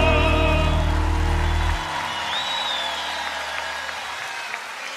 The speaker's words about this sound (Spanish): fuerte ese aplauso.